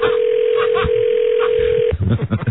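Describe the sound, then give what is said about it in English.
A telephone ring tone on a call: one steady, mid-pitched electronic tone holding for about two seconds, then cutting off abruptly as people start talking. “I think he was just fumbling with the phone with all the water and all. Or it might have been at the end of the rings.”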